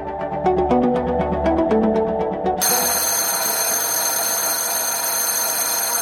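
A short run of bright melodic tones gives way to a loud, shrill school bell ringing continuously and steadily until the end, with no voices.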